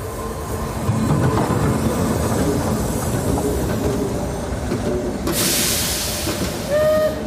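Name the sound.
train waiting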